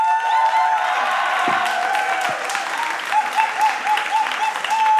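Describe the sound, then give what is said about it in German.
Loud, sustained applause from a large audience at a live show in Ulm, welcoming a band, fills the whole stretch, a dense wash of clapping with some cheering mixed in, steady throughout. “Bitte begrüßen Sie mit donnerndem Applaus …!”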